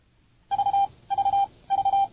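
Morse code beeps from the opening of RKO Pictures film releases ring out in three quick groups of rapid, high-pitched tone dots separated by short pauses, clear, with no one talking.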